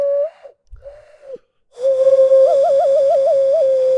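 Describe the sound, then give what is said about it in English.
A person whistles short breathy tones, pauses, then holds a steady whistled note that breaks into a quick warbling trill, imitating an owl hoot, fairly loud. “I can do this one, though.”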